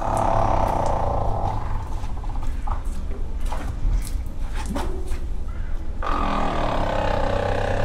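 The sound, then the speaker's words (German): An African elephant makes a loud, low rattling rumble, a rough pulsing vibration that carries on for several seconds before its tone shifts abruptly near the end, with no talking. “Das war jetzt ein afrikanischer Elefant, aber das ist so ein Knattergeräusch, was an und für sich nicht jeder Elefant macht.”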